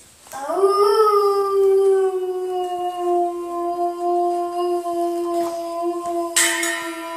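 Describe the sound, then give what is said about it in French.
A single long wolf howl rises quickly, then holds a steady, sustained tone for several seconds, loud, with no other voices around it. “Il était une fois un loup.”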